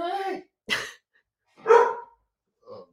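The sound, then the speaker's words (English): A pet dog at home barks four times in short, uneven bursts, with brief silences between them; the barks are moderately loud, and nothing else is audible. “And right now our dog is barking.”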